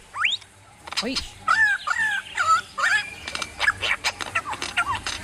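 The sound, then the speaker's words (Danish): A lyrebird runs through a rapid medley of mimicked calls: sweeping whistles, warbles, sharp clicks and chattering bursts, loud, with no one speaking. “som hedder en Lyra Bird”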